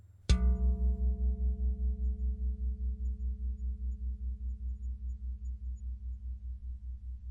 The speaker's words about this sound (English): Listen closely and notice how you feel when I make this sound, the sound you want to hear, the sound of my bell.